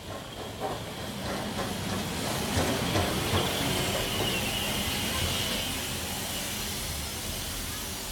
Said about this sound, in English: What's that noise? It's the train. It's coming, says Mrs. Boot. Look, it's a steam train, says Poppy. How exciting! The train puffs down the track.